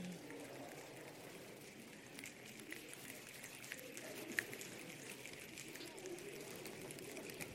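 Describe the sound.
A group rubbing their hands together to imitate rain starting to fall: a steady, soft rustling hiss, continuous and even throughout, with faint murmurs and small taps scattered in the background.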